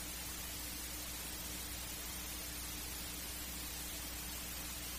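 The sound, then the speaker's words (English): A steady, soothing drone of wind and air moving through pipes inside a dome about 12 to 14 feet in diameter, a soft, even hiss over a low hum, unchanging throughout with no voices or other sounds. “And there's just the sound of the wind, just kind of the air pipes gently going in the background, kind of a soothing drone.”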